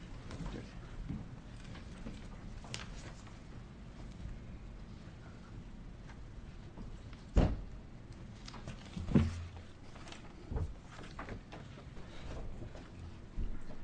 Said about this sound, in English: I did hit the gavel, didn't I? Thanks. Now, there it is, yeah.